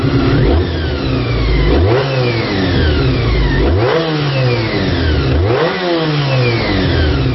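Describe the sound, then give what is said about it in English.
A Honda V4 motorcycle engine with gear-driven cams, on a bike that is a mini version of Honda's RC30, revs hard in repeated sweeps, pitch climbing and dropping about four times in succession, loud with a gruff, throbbing mechanical tone and no voices. “speel gou vir ons daai klankgreep van hoe daai engine klink”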